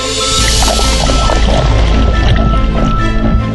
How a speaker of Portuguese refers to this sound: Na cachoeira Rei do Prata, um banho refrescante e uma água cor de esmeralda.